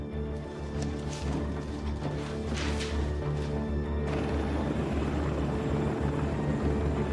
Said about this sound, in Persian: هلیکوپتر آماده است.